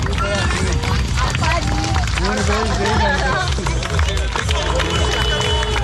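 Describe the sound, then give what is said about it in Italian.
A dense, lively crowd of excited children's voices chattering and calling out together, high-pitched and continuous, with a steady festive hubbub. They are at the start gate of a cycling race to Brest by the Vélodrome National in Paris. The children reach their hands into the barriered course toward the 5,867 departing cyclists. “Si sentono per lo più voci festanti di bambini che tendono la mano all'interno del percorso transennato per un fugace ed intenso contatto con uno o più dei 5.867 viaggiatori a pedali in partenza per Brest.”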